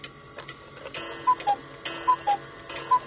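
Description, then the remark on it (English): A cuckoo clock strikes 3 o'clock, sounding three two-note cuckoo calls in steady succession over a background of mechanical ticking and clicks, with no one speaking. “3 o'clock. Did you see that little bird?”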